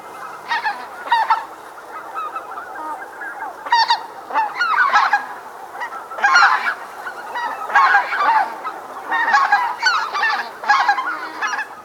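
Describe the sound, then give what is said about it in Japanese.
A flock of greater white-fronted geese calls continuously, many overlapping high, yelping honks rising and falling in bursts, fairly loud, with no talking. “数の多い魔ガンの鳴き声を聞き和歌を読んでいたと思われます。”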